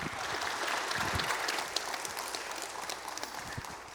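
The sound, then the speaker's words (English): A crowd claps steadily, a dense patter of many hands that stays fairly loud throughout, with no voices over it. “I'm glad you all clapped, because I was going to tell you, if you didn't clap, you have to,”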